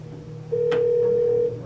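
A telephone rings as a family member calls to ask when the person will arrive, a single steady electronic tone lasting about a second, fairly loud, with a brief click partway through and faint background hum. No one speaks.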